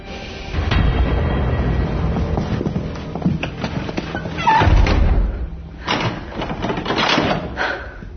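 A heavy door slams shut with a deep, booming thud, followed by a second hard knock a few seconds later, set against a dense rumbling background.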